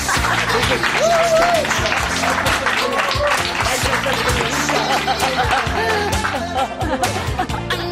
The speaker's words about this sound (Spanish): Venga, un aplauso, sí.